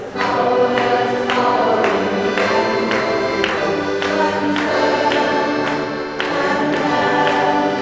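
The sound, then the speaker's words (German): A group sings together loudly and steadily, punk-rock style at maximum volume, with sharp claps and finger snaps landing on a regular beat roughly every half second throughout. “Okay, nach dieser Ansage mutieren wir vom kirchlichen Singkreis zu einem gut hörbaren Klangkörper, klatschen und schnippen dazu mit den Fingern.”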